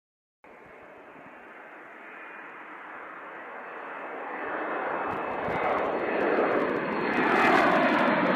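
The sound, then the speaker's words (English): A Boeing 737 jet airplane engine roars steadily on the plane's last flight out of the city airport, flown by Canadian North pilots: a broad whooshing drone that swells gradually louder over several seconds, powerful, with no voices. “We both, one of many people that would, that jumped at the chance to, have an opportunity to fly this airplane, its last flight out of the city airport.”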